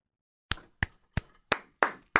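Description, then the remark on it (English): A thin applause sound effect: six separate, sharp hand claps at a slow, slightly uneven pace after a brief silence, fairly loud, with no voices. “Ladies and gentlemen, squeeze them together for Skin Wade.”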